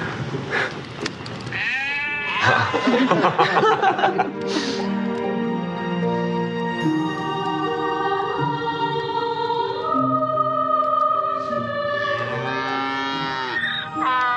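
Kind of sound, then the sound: animal, donkey braying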